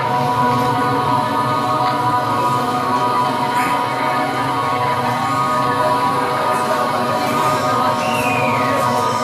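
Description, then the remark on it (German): A loud, unbroken droning hum inside an exhibit, representing the hum of bees beating their wings to keep their temperature constant, fills the whole stretch, layered with steady sustained tones of accompanying mysterious music and no speech. “Und da drin ist ein lautes Brummen, das entspricht dem Brummen der Bienen, wenn die ihre Flügel schlagen”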